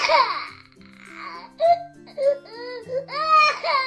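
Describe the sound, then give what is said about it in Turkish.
A young child cries in a series of high, wavering wails and sobbing bursts, fairly loud, with a faint low steady tone humming underneath. “Bunun üzerine Güzel Göz ağlamaya başladı.”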